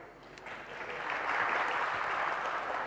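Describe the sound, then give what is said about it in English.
An audience at a tech presentation breaks into steady applause after an announcement of transparent PNG support in Internet Explorer 7, a dense wash of many hands clapping that swells slightly and holds at a fairly loud level for a few seconds, with no one speaking. “I'm glad the bar is so low that I can say transparent pings and people applaud.”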